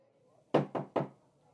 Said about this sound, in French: Tout le monde est arrivé et la porte est déjà fermée. Tu frappes trois petits coups.